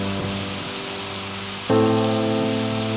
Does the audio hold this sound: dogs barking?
no